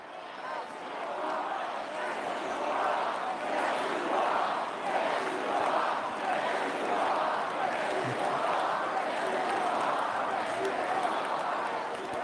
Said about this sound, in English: And you can hear the crowd.